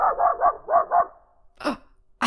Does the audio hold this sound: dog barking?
yes